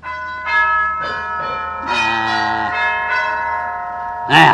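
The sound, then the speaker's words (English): An electric gong doorbell, sounded by pressing its push button, rings in several bright, resonant strikes with lingering metallic overtones, fairly loud, ending in a harsher clang near the end. “I'm going to rip that whack-wacky gong box off of the wall.”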